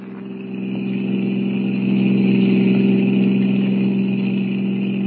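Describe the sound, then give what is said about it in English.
A blue roadster's engine roars steadily as it speeds down a highway at 90, a loud, continuous droning hum that swells in the first second and then holds even throughout, with no voices. “We're doing 90. This crate sure can travel.”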